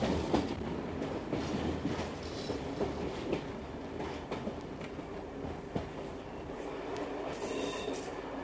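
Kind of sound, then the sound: vehicle, train riding on rails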